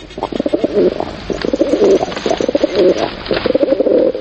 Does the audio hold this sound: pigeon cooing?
yes